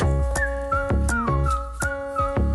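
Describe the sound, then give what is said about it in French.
A cheerful whistled melody glides over an upbeat musical backing with steady percussive beats: the theme tune of Ensemble on bricole, a new DIY programme on C8, loud with no talking. “Et comme dans tous les programmes feel good, le générique est sifflé.”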